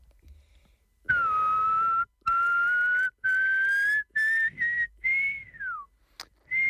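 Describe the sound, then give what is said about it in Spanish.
A person whistles an imitation of an owl heard at night at a campsite: about five sustained, clear notes in steady succession, creeping slightly higher, the last one sliding downward, followed by a short click. No talking. “¿Cómo hacía el búho ese búho?”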